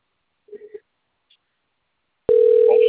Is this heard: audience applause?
no